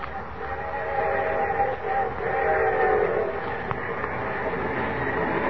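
A train rumbles steadily along the tracks, a constant loud roar with a faint whistling tone riding over it, and no voices.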